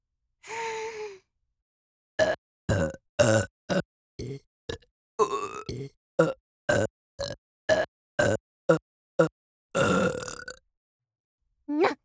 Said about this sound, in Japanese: 木魚ゲップ行くのじゃ。